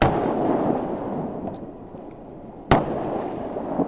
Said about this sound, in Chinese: 几分钟之后，射击场爆炸声系四起。艾布拉姆斯战车的120毫米火炮发出怒火，只有十几公里之隔的朝鲜军队亦都能够依稀地听到炮声。